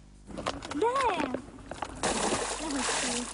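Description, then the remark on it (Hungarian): Fifty carp are tipped into the canal flowing into Kis-Balaton, Hungary, to restock fish, with a sustained, noisy splash that starts abruptly midway and keeps rushing to the end; brief voices are heard faintly beforehand. “Szakemberek elsőként jelképesen 50 nyurgapontyot telepítettek a tóba.”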